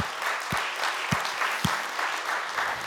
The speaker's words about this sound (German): Kommt, gebt euch mal einen großartigen Applaus, weil das hammermäßig ist.